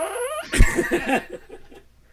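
A novelty fart noise from a fart pen: a rising squeaky whine that breaks into a loud, sputtering, buzzy flutter, then trails off into softer rattling pulses. No talking.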